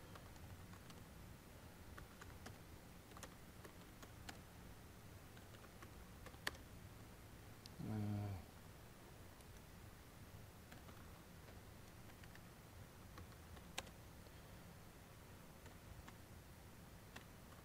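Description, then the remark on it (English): Quiet, irregular typing on a computer keyboard: scattered soft key clicks spread over a steady background hiss, with one brief low humming tone partway through and no one speaking. “This keyboard is not my greatest.”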